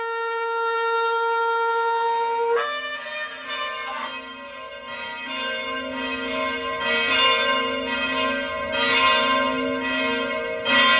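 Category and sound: signal or alarm, church bell ringing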